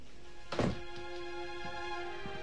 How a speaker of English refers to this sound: Sam turns out the light, walks out, and shuts the door.